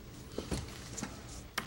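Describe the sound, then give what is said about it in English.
A door is pushed shut, with a few soft clicks and shuffles before a sharp, loud thud and latch at the very end; no one speaks. “Yes, close the door, please.”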